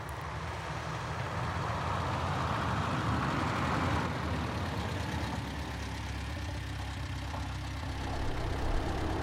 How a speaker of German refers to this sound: das sind aber sehr viele Autos. Und sie kommen von allen Seiten.